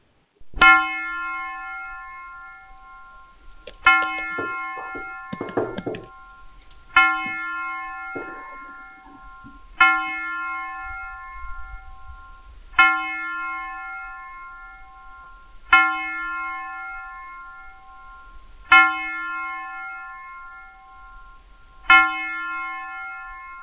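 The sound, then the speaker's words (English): A bell tolls eight times at a slow, steady pace, each ringing strike fading into a long resonant hum. A brief blaring horn-like tone sounds between the early strikes. “I love the sound of the trump and the bells.”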